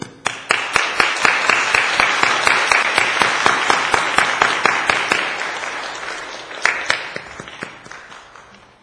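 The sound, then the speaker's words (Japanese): A church audience applauds to welcome a pastor to the pulpit, with many overlapping claps forming a steady, fairly loud roar that swells early and gradually thins out toward the end, with a few scattered last claps. “まず拍手を持って講壇に先生をお迎えしたいと思います。”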